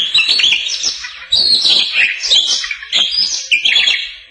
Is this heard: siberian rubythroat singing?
yes